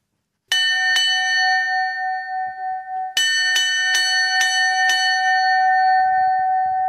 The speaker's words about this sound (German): dass er auch mit über 70 gern alles stehen und liegen lässt, wenn Kundschaft am Rheinufer steht und mit der Glocke im Fährmann läutet.